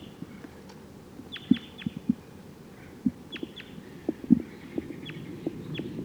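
wild bird calling

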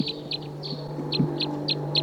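wild birds calling

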